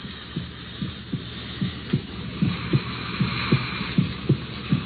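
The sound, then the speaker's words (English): The heartbeat of a created creature, heard through a stethoscope: steady, low, muffled thumps repeating about twice a second over a faint hiss, with no voices. “It's breathing, Victor. What have you done? The thing's alive.”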